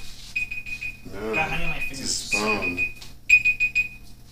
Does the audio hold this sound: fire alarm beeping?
yes